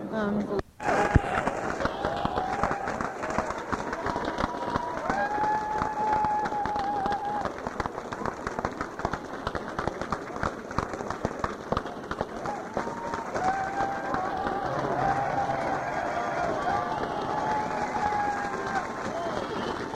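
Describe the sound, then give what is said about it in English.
A dense, steady wash of noise from a crowd outside, many voices blending into a continuous roar, with occasional whistle-like tones rising above it and a brief sharp sound near the start. “crowd outside that I can do, and I hear there's another one upstairs.”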